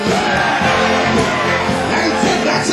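audience screaming

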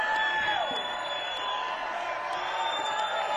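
audience applause and cheering

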